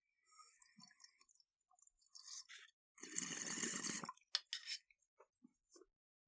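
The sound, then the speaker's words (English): Someone takes a smoking hit: a few faint clicks, then a steady hissing, bubbly inhale lasting about a second, followed by scattered soft taps and breaths. No one speaks. “Yes, I will pause in the middle of my goddamn podcast to take a hit.”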